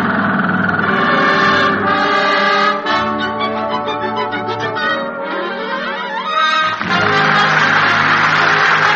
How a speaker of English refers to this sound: Oh, what's that? The blasting is over. Now the drilling starts.